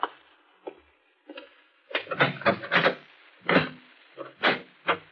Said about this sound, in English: There's a discreet knock on the door at the front of the shop.